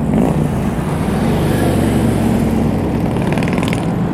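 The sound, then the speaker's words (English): Steady roar of road traffic, with engine rumble and tire noise blending into a continuous wash as vehicles pass, no voices over it. “A lot of traffic out here today.”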